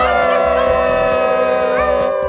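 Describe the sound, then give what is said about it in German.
A robot dog honks the horn of the Patroller vehicle in one loud, long, steady blast of over two seconds, a bright buzzing tone with only slight wavering in pitch and no voices. “Robohund hupen.”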